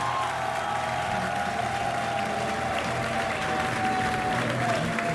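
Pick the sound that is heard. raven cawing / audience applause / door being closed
audience applause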